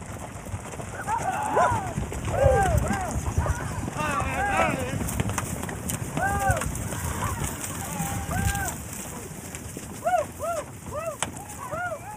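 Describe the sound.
A herd of a few hundred ranch horses, driven by cowboys, gallops past in the town of Maybell, Colorado, a loud continuous rumble of countless hooves, with rising-and-falling calls and voices shouting over the din.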